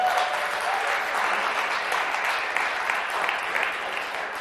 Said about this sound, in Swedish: Ge en applåd